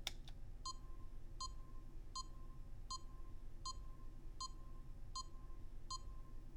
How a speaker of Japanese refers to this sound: その前に館内のビープ音を流しますね。